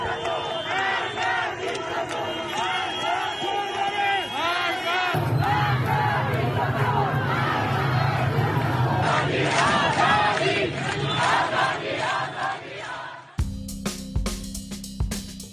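A large crowd at a street protest against the regime in Iran shouts and chants angrily in Farsi outdoors, many voices overlapping loudly and continuously, with an abrupt change in recording partway through and a final burst of harsher shouting.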